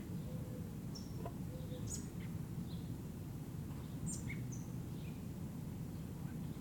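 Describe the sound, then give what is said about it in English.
Short, high-pitched begging chirps from a fairly large young American robin chick about 6 meters up in an oak tree at the southeast corner of LSB, August 1, 1978, 6:15 p.m., scattered irregularly and fairly faint, over a steady rumbling background hiss. No one speaks. “I think it's the chick that's doing all those sounds, but it's difficult to see.”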